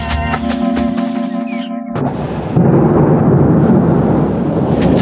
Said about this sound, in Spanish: Los relámpagos rasgan las sombras de la noche y se desata una tormenta sobre la isla.